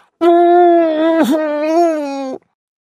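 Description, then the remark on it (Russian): A woman's voice lets out a long, plaintive moan while covering her face with her hands, on one sustained, fairly high pitch, loud and steady for about two seconds, with a brief catch in the middle before trailing off. “«А-а-а-а-а!» — жалобно простонала та, закрывая лицо руками.”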